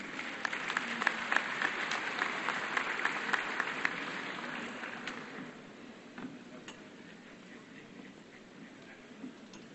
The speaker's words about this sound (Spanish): Un aplauso para el maestro.